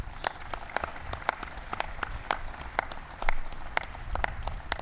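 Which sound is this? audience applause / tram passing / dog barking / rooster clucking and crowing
audience applause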